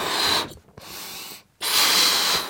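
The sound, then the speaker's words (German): Someone rummages through a box of laugh-lab props: bursts of rustling, scraping and clattering, broken by two short pauses, with no voices. “kruselt in der Lachlaborkiste.”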